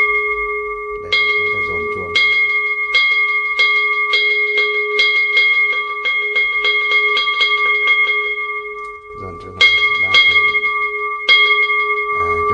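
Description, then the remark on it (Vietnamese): A Buddhist temple bell is struck repeatedly at the start of a ceremony, its strikes coming faster and faster into a ringing roll, then a fresh stroke starts a second accelerating run. Loud, with a sustained metallic hum. “Khi chúng ta giải ra như thế này mà chúng ta nhìn thấy là các Phật tử và người nhà của họ đã ngồi vào đâu vào đấy rồi, trang nghiêm đạo tràng rồi, bắt đầu thì chúng ta mới dồn chuông.”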